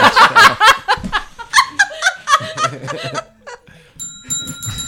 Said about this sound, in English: Oh. Well, ring the friggin' bell then.